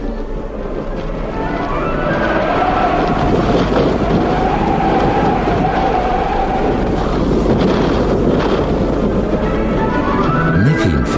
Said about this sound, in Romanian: Merse el ce merse și numai ce se porni o furtună cu fulgere și tunete nemaipomenite.